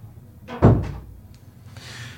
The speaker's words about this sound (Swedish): Ja, det var en som kom in genom dörren och frågade om vi ville ha kaffe.